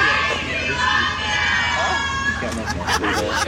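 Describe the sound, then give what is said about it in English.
A crowd of fans waiting at a fan meet and greet to say hi to Luke cheers and shouts in a steady, loud wash of high voices, with sharper bursts of yelling near the end. “fans who are waiting to say hi to Luke. They're just cheering over there.”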